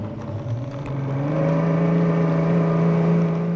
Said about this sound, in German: steuert sein Boot aus dem kleinen Hafen von Point de la Hache hinaus in einen schmalen Kanal.